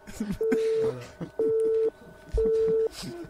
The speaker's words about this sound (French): Genre le téléphone sonnera.